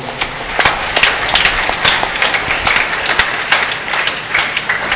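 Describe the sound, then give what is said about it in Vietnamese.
A church audience at a Mass applauds children steadily, many hands clapping at once in a dense, crackling wash with sharper individual claps popping out, sustained at an even level throughout with no voices. “Xin cộng đoàn cho các em một tràng vỗ tay.”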